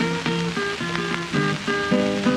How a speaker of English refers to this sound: Oh, people, listen to that. Oh, play that thing, Mr. Tambourine.